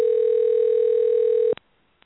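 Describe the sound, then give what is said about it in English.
A telephone line rings while a caller is being reached on a call-in line: one steady, loud electronic tone holds for about a second and a half, then cuts off abruptly with a faint click, followed by near silence. No one speaks. “We're trying to get Alice, and I'm sorry, it is ringing through.”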